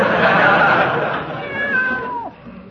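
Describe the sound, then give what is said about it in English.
A cat named Aesop lets out a single drawn-out meow that slides downward in pitch as it fades, over a rough, hissy background with no talking. “Give the cat a boot if he bothers your Peavy.”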